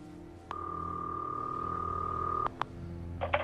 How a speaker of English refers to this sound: A bugging device starts ringing.